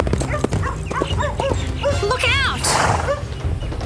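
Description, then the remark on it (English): A dog yaps and snaps at a galloping horse's shins, weaving between its hooves, in a quick, excited series of high barks and whines, with a brief rushing burst of noise near the end. “The pesky dog was underneath them, weaving between the horse's clamouring hooves and snapping at its shins.”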